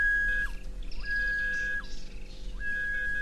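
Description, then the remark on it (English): An H-Stamets detector, which combines ground-penetrating radar with metal detection, being demonstrated: its metal detector emits a steady high electronic tone that repeatedly cuts off with a quick downward swoop, while a warbling, higher-pitched pulsing comes and goes over a constant low hum. “And you're going to hear the metal detector, which I will demonstrate for you now.”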